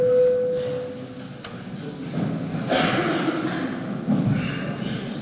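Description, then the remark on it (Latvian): A steady electronic parliament voting bell tone sounds clearly for about a second, called before a vote on a bill transferring state forest land to Augšdaugava municipality for an industrial park, then stops, leaving background murmur and faint shuffling noises. “Tātad lūdzu zvanu.”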